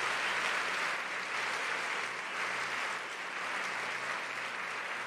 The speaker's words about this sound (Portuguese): Se você tem vitória e você é alegre para essa vitória, aplauda Jesus onde você está agora.